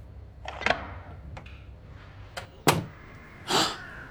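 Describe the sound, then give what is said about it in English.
A few light clicks and a soft latch sound, then a sharp clack as a guest-room door, opened with a swipe key card, unlatches and swings open with a brief whoosh, with no one speaking. “I pick up her swipe key and wonder if it fits in any door.”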